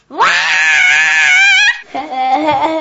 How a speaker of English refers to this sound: Number 3. Sometimes you just gotta scream.